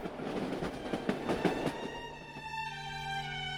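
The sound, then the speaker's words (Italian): A sleeper-car train travelling from New York to Kingston, Canada, rolls steadily along the tracks with a rhythmic clickety-clack of wheels over rail joints, then a sustained tonal hum or whine rises and holds near the end, moderately loud. “In seguito, recuperati i bagagli e dopo un breve giro per New York, i tre si sistemarono in un vagone letto, su un treno che li avrebbe portati fino a Kingston, in Canada.”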